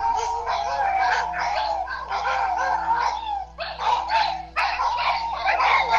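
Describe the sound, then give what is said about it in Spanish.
Several dogs bark continuously and restlessly at a pirul tree, overlapping yips and barks filling the whole stretch with only brief gaps, loud over a steady low hum. “Están realmente inquietos los perros, pero dice que le ladran al árbol de pirul.”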